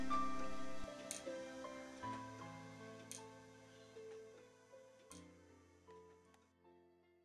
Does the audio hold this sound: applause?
no